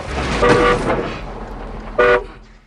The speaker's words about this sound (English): smashes his head against the steering wheel, hitting the horn.